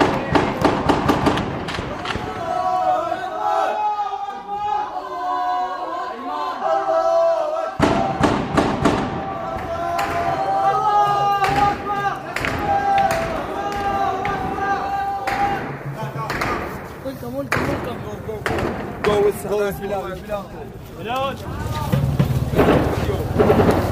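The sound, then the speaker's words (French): Sharp rapid bursts of automatic gunfire crack out in several clusters, abruptly interrupting a demonstration of about 250 people shouting and chanting against Bashar al-Assad's regime, the firing loud and abrupt against the steady din. “La manifestation est brutalement interrompue par des rafales de tirs automatiques.”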